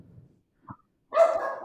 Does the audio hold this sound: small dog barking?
yes